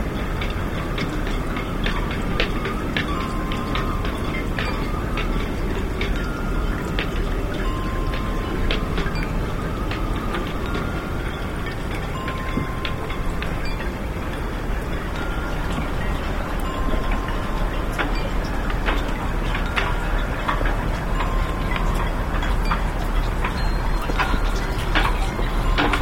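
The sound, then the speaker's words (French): Faint, distant metallic clinks and little bell-like tings ring out irregularly over a steady roar of wind, the light tapping of halyards against boat masts scattered through the whole stretch, at an empty harbour quay. “Le bruit des guindes sur les mâts qu'on devine là au loin comme des petites clochettes humides, c'est le bruit que j'étais venu chercher.”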